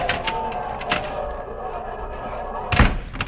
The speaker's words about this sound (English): Now, open the door